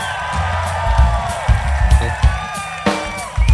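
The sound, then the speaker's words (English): A crowd at Jazz Fest in New Orleans, Louisiana, screams and cheers for a musician on the organ, with high whoops and shrill voices gliding over a steady wash of noise, and a few sharp bursts rising out of the roar. “… on the organ, everybody. Give him a scream.”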